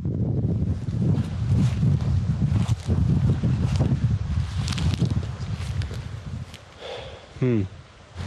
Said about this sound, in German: So schön gerade wieder hier unten am Wasser. Richtig nice mit der Sonne.